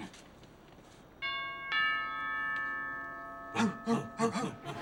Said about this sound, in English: I can't wait to see her face. She's gonna freak. You ready? Ring the bell.